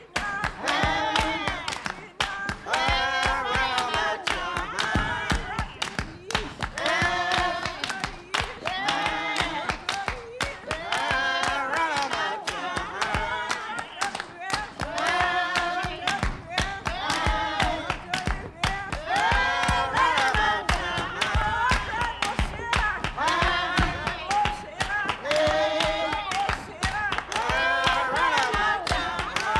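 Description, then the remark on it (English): A crowd of voices shouts and sings together during worship in loud, continuous waves, with rhythmic clapping and thumping beneath, sustained and energetic for the whole stretch. “Of shouting, that is, any kind of sacred movement with the singing, met resistance from Christian missionaries.”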